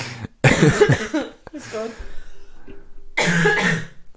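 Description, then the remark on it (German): Several harsh, raspy coughs come in bursts, with short pauses between them and a throaty rattle in the middle; no speech. “Du musst einfach wirklich nicht leise sein, wenn ich huste.”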